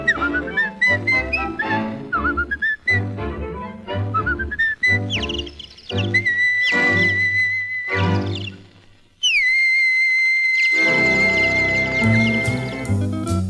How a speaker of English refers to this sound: But I found out, I know it's true, a whistle does much more for you. So I love to whistle.